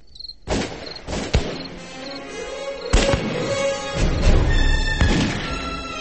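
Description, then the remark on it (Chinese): Scattered gunshots crack outside a house in Beijing at irregular intervals, about five sharp reports over a few seconds, some loud, others duller, over a steady background hiss with faint high-pitched whining. “隔壁喜子的呜咽声和屋外零星的枪声依然是十分清晰”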